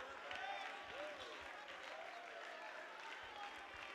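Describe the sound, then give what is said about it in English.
An audience claps their hands as a hand clap of victory, a dense, steady burst of applause lasting several seconds, with scattered voices calling out and whooping over the clapping. “Come on, one more time, a hand clap of victory.”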